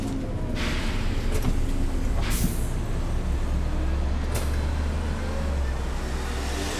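A city bus, taken from Piazzale Roma, arrives at the start of Via delle Industrie, rumbling with a steady low engine drone as several sharp hisses of air brakes burst out over the idling, set against general street traffic noise.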